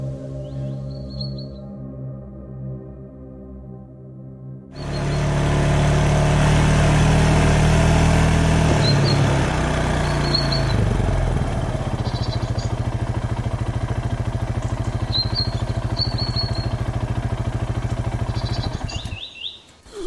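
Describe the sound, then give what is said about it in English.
A faint low hum gives way to a side-by-side utility vehicle engine roaring to life, running loud and steady with a deep rumble for about fifteen seconds before cutting off, birds chirping faintly. “Here, take the keys to the side-by-side.”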